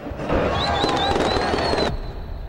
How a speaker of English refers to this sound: On street level, dancing and fireworks.